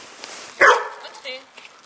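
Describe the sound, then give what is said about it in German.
A mantrailing dog in a scent experiment lets out one sharp, loud yap at a man, followed by a softer second bark, as it sniffs at all the people present, with people talking in the background. “Schauen Sie mal, der Hund, der kläfft mich jetzt an, das bin ich, ja, und schnuppert an allen Personen, die da sind.”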